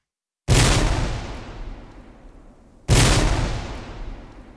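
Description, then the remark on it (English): Two loud cannon blasts, about two seconds apart, each a sharp booming report that rolls off into a long rumbling echo. No voices. “Oh yes, and cannon in front of them. More of that, though not too much more, I promise, anon.”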